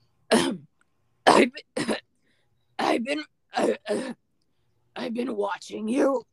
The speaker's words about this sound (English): Oh, let me get more smoker cough in here.